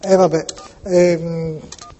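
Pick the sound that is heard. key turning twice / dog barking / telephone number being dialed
telephone number being dialed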